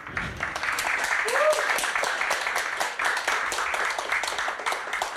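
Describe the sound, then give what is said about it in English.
An audience applauds steadily, many hands clapping in a dense, continuous patter at even loudness for several seconds, with no voices standing out, giving a round of applause for the book Narconomics at an evening event with its author Tom Wainwright. “So if you can give a round of applause to this book alone.”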